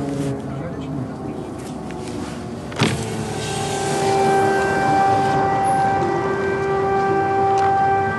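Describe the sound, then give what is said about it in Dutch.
An air raid siren wails across Lviv, a steady tone rising in and holding, heard from inside a taxi over a low engine rumble, with a brief thump early on. “Het is echt heel bizar, maar ik zit in een taxi. Wat misschien ook niet helemaal veilig is en het luchtalarm gaat af hier in Lviv.”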